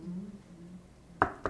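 Two sharp knocks on a door, close together near the end, following a stretch of faint low murmuring voices in the background.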